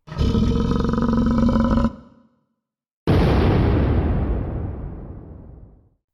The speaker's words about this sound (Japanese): 必殺の一撃に怪獣は倒れ込みながら爆発した。